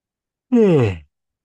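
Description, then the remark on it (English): A single short voiced yawn, fairly loud, its tone sliding downward over about half a second before trailing off into silence. “By the way, when I yawn, it's not because I'm tired.”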